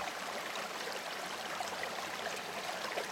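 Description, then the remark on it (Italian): A steady stream flows and babbles without pause at the bottom of a ravine, a constant, hissy wash of water with small bright gurgles scattered through it. No voices are present. “Antonio aprì gli occhi all'improvviso e si accorse che stava camminando nel sonno e che stava per precipitare in una forra, sul fondo della quale correva un ruscello.”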